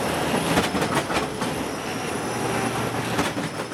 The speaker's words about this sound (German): Die Luft flimmert vor Hitze. Das Ungetüm schnaubt. Seine Metallhufe schieben den Schotter am Bahndamm zur Seite. Staub wirbelt auf. Der Büffel reißt die alten Gleise und Schwellen heraus und setzt neue ins Schotterbett.